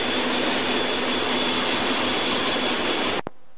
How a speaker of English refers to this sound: But as it's such a heavy train, it's going to take a few miles again to get any real speed back up. And we're just heading off now into Stoning Cutting.